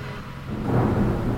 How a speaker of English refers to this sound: The rain is coming. You see? Yeah.